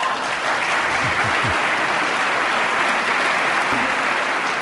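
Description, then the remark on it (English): A large crowd of Republicans applauds steadily after a speaker talks about defending life at every stage of its development, a dense, loud wash of clapping that stays even throughout with no pauses or voices breaking through. “I was going to say there that that got a huge round of applause from Republicans when he talked about defending life at every stage of its development.”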